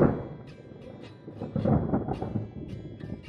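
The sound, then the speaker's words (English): A deep, rolling rumble of thunder during a bad storm at night that swells midway and keeps grumbling, with a steady wash of rain hissing underneath throughout. “The night after you came to Seji's house for dinner, there was a bad storm.”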